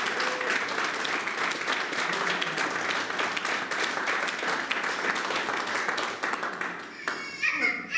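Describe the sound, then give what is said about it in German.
Loud, sustained applause as a group of Bible-class students at a church service applaud themselves, dense clapping continuing steadily for several seconds before tapering off near the end with a few stray claps and faint voices. “Und ihr habt das richtig klasse gemacht und jetzt habt ihr euch einen richtig starken Applaus gegeben.”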